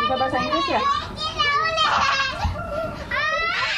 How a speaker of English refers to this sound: And in this neighborhood in northern Jakarta, kids grow up thinking it's normal to live on a creaky platform, playing just inches from its edge.